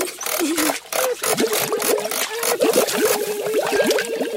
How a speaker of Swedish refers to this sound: Oj, så tungt. Och det skvalpar. Är det en hink med vatten? Nej, ingen hink.